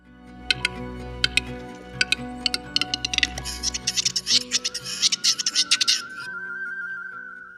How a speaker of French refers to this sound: Les chants d'oiseaux que vous avez écoutés ont été enregistrés par Jarek Matuziak et sont disponibles sur xeno-canto.org.